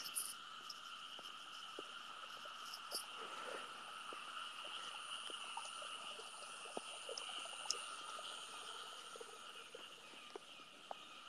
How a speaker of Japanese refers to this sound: ああ、カエルがめっちゃギコギコ言っとる。